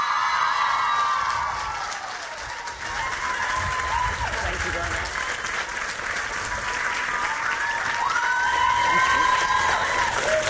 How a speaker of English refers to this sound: And then an even bigger cheer now you've warmed up